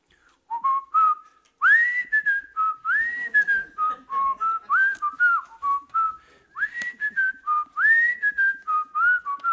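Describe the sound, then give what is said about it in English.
A person whistles a bright, bouncy TV theme tune solo, the clear tones sliding up into each phrase with brief breaths between, fairly loud, no voices alongside. “Hopefully he can hear that whistling.”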